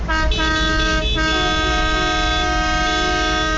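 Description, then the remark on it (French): Loud vehicle horns blare nearly without pause, several overlapping tones sounding together, with a couple of brief dips near the start, as a convoy honks to make itself heard in Paris. Nobody speaks. “Il reste tout de même 36 km pour atteindre l'avenue Foch, mais ils tiendront en tout cas à se faire entendre dans la ville à coups de klaxon.”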